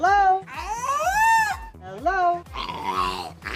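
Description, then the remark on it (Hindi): A killer whale named Amy, at a marine park in France and studied by University of St Andrews scientists, mimics human speech such as hello, bye bye and one-two in a series of warbling, voice-like squeals and wavering tonal calls, with low rhythmic pulses running beneath and short breaks between the strained syllables. “क्या आप यकीन करेंगे ये अल्फाज एक किलर व्हेल बोल रही है?”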